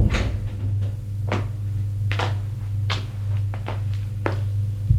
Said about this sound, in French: Elle entre. Elle ferme la porte.